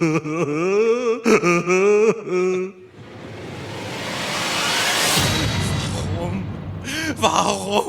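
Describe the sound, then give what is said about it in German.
A woman wails and sobs in wavering, breathy cries, then a loud rushing noise swells and fades before her sobbing starts again. “Hören Sie doch auf zu weinen.”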